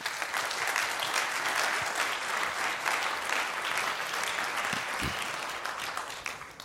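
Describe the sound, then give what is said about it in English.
An audience applauds to welcome a speaker presenting a talk on hacking the Raspberry Pi RP2350 microcontroller, a dense, steady wash of many hands clapping that holds at an even level for several seconds before easing off slightly at the end, with no voices over it. “So please give a warm welcome applause to Aidan.”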